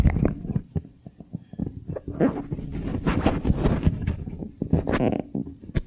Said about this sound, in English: Uh-oh. I'm now breathing. I can hear it.